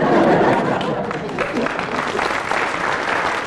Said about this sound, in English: Everybody so far has got a round of applause, except for Graham Garden, which puts him ahead, and we go to you.